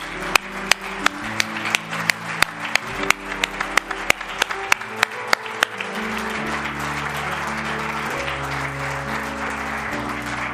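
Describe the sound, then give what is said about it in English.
An audience at an evening church service gives the Lord a hand clap, first in a steady rhythmic beat for several seconds, then breaking into a dense, continuous applause, with sustained low musical chords playing underneath throughout. “Lord a hand clap tonight.”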